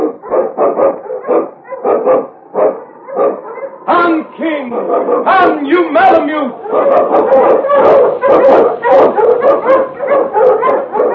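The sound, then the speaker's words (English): A malamute sled dog, King, the Eskimo lead dog of the show The Challenge of the Yukon, barks and yips excitedly in a rapid, continuous string of loud calls, with high yelps rising over the steady barking and a brief voice heard partway through. “Malamute! The Wonder Dog King, swiftest and strongest of Eskimo lead dogs, blazes the trail through storm and snow for Sergeant Preston as he meets the Challenge of the Yukon.”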